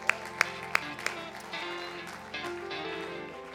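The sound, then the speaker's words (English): A handful of sharp claps ring out in a quick rhythm, then give way to a sustained wash of crowd applause and murmuring as a church audience claps in praise to the Lord during a worship service. “Clap to the Lord today.”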